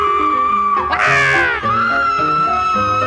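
A woman shrieks in loud, high-pitched wails, with one especially piercing cry that swells and wavers before sliding back into a sustained, tense vocal tone.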